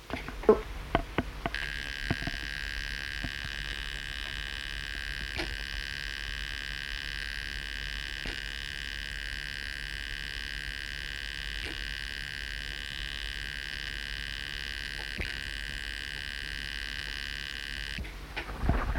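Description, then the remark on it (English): A steady, high-pitched electronic buzz of data being dumped from a machine into a word processor on a computer drones for about sixteen seconds, briefly interrupted every few seconds so it sounds slightly broken into patches, with soft clicks at start and end. “Now, you may have noticed that the buzz that time was not quite as smooth. It seemed to be broken up a little into patches.”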